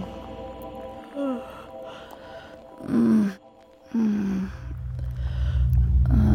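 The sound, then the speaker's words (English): Faint, strained breathing of a woman, with a few short gasps and groan-like catches, spaced a second or two apart over a low, steady rumble, with no talking. “I think she's breathing.”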